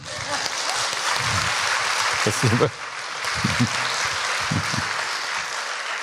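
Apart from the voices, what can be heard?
sparse applause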